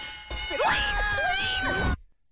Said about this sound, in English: So listen to it one more time and pay careful attention to the dinging. How many dings you hear before she screams lean. Not fat. So you heard three dings and then her screaming lean.